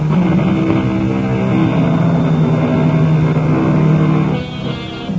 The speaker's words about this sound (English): The helicopter hovers over the nightmare landscape. It is an eerie, ghostly country of jagged and rocky hills, deep and narrow ravines, completely devoid of any softening traces of vegetation.